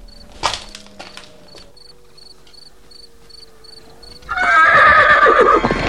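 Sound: horse neighing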